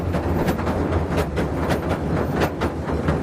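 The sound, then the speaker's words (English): A passenger train rolls past, a loud, steady rumble punctuated by a quick rhythmic clatter of wheels over rail joints, with no voices. “when the train goes by, it'll be called the Sir John Betjeman”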